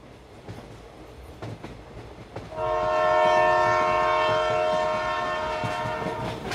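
A train rumbles along the rails in the morning as it nears its destination, then a loud, sustained horn blares in and holds steady for several seconds over the continuing clatter, with no voices.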